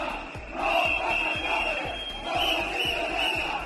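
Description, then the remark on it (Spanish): A crowd of protesters shouts loudly and continuously at a motorcade led by the vice president of the government, some throwing eggs at it, many voices overlapping, with a steady high-pitched whistle-like tone running through and rhythmic low thumps beneath the din. “Gritaron y también varios de los concentrados lanzó algún huevo contra la comitiva que lideraba la vicepresidenta del gobierno y que no le llegó a impactar.”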